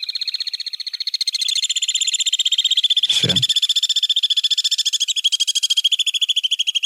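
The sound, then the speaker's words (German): Alpine swifts, close relatives of the common swift, call in a continuous, loud chorus of rapid, high-pitched trills that pulse steadily throughout, broken briefly midway by a single spoken word. “wir haben hier einen Nahverwandten des Mauerseglers, die zweite Seglerart, die in Deutschland brütet”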